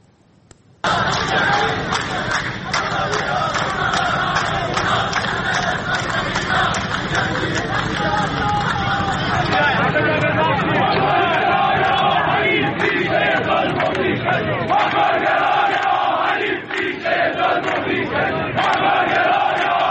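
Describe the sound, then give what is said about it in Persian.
A large crowd of protesting workers in southern Iranian cities, including Ahvaz and Shush, shouting and chanting together in a loud, continuous roar of many voices, with overlapping cries and a dense babble that barely lets up for the whole stretch. “ابتدا ویدئویی داریم از ادامه اعتراض‌های کارگری در چند شهر جنوبی ایران از جمله اهواز و شوش که تمام طول هفته ادامه داشت.”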